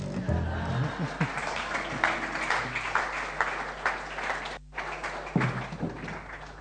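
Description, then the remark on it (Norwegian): An audience claps and applauds steadily at the end of a song, at a fairly loud level, a dense wash of many hands, briefly cutting out near the end before picking up again. “Denne sangen har egentlig ingen avslutning, så det fint hvis du klapper nå.”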